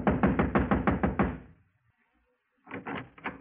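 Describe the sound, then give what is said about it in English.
Rapid, firm knocking on a wooden apartment door marked manager, apartment number 4, at 4 a.m.: a quick run of about eight raps, a brief pause, then another short burst of knocks. Fairly loud, with no voices. “Across the hall, the door to apartment number 4 said manager. I walked over and started knocking again.”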